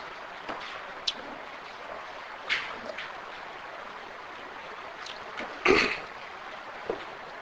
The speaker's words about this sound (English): I have to pause for a drink of water. I apologize. I think the smoke is affecting the throat a little bit.